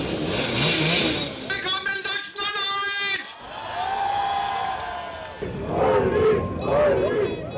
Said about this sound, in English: the AfD's 35-year-old candidate for the upcoming state election, is leading a motorcade atop a blue moped, the AfD's signature colour.